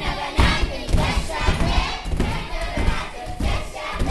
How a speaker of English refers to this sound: The song is insistent, along with a thumping march. We want to learn and rise up to fulfill our dreams.